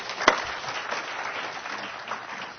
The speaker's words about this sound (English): And one of the victories we can celebrate is the recent opening of Community Blend Coffee Shop. This was a vision that was started. I think applause is most appropriate at this point.